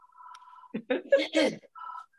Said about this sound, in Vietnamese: Nghe điện thoại đi.